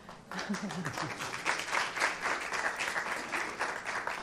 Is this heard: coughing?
no